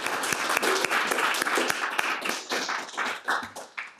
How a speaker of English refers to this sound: And we actually need to have another round of applause.